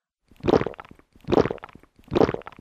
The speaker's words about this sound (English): Goku goku. Goku goku is used with the verb nomu to drink and refers to the action of drinking something quickly.